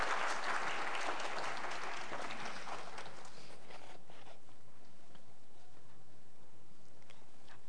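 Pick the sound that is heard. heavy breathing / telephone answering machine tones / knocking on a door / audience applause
audience applause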